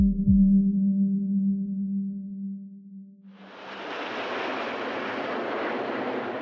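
A low, steady droning hum gives way to the loud, rushing roar of Red Arrows military display jets flying over at the Farnborough air show, holding strong to the end with no voices.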